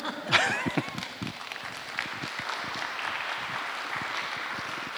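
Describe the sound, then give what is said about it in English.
An audience at a church service breaks into steady applause for the minister's service, a dense crackle of many hands clapping that holds for several seconds, with a few voices faintly mixed in near the start. “You want to applaud my service? Go right ahead.”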